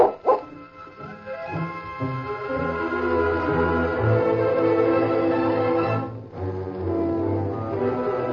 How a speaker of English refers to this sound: He sat on a boulder and scuffed his foot in the dirt as he stroked Duke's smooth coat. Suddenly, the dog growled and barked as two horsemen approached.